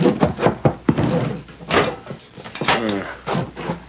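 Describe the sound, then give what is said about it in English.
A series of clattering knocks and clunks as a door is unlocked and shut, with a few sharp bangs spaced unevenly over several seconds and faint voice-like sounds in between. “Wait till I get this door unlocked.”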